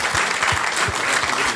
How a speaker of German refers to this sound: Kleiner Applaus und für den Verein.